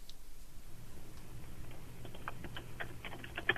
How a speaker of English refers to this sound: What are you typing? Are you typing my phone number into your computer?